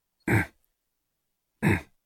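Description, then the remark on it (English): Two short, raspy throaty growls from a human voice imitating a leopard, each about a third of a second, spaced over a second apart in an otherwise silent recording. “Bring in the leopard growl,”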